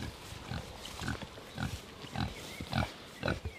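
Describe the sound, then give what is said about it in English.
Two kunekune pigs grunt softly in short, repeated bursts about every half second while grazing grass in a paddock, with a faint outdoor background and no talking. “Well, coonies are a grazing pig.”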